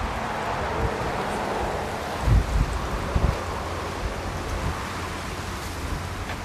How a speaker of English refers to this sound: That's how windy it is out here.